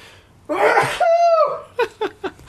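A single loud, close sneeze: a sharp breathy inhale-burst followed by a tonal, wheezy release, then a few quick sniffs or small exhalations trailing off.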